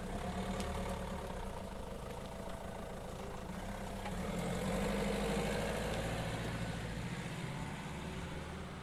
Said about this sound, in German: Wir können sonst das Auto von meinem Bruder nehmen. Zusammen fahren sie zu Lisa.